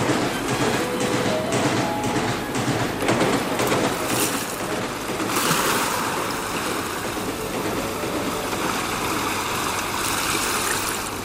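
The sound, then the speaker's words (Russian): Steady wash of sea waves rolling and breaking, a dense continuous hiss with surges, moderately loud, no voices. “Море. Наконец-то.”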